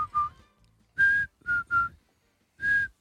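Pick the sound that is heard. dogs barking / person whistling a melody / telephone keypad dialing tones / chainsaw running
person whistling a melody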